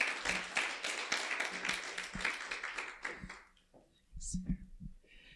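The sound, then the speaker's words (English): An audience claps steadily for about three seconds to welcome a speaker on African Christianity, a dense crackle of many hands that fades out, followed by a few quieter knocks and shuffles. “So it's with privilege that I invite Emma to share with us about African Christianity. A round of applause.”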